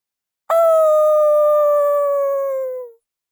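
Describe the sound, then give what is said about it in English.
A single long, loud howl from the dog Toki, holding one steady tone for a couple of seconds before sliding slightly lower and fading out. No other sounds accompany it. “He's about to say something else when we hear a long howl.”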